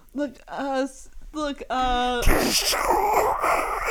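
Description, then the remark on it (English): A voice growls out a few rising, moaning vocal bursts, then unleashes a long, loud, breathy roar and hiss imitating a dragon breathing fire, forceful for nearly two seconds. “That was me breathing fire.”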